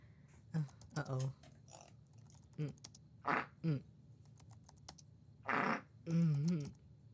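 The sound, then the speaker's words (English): Several short, muffled farts into a cushion, coming in scattered bursts with a couple of longer, buzzier ones near the end, fairly quiet over a low background hum. “I guess a good part of all of this is the fact that I'm farting into a cushion.”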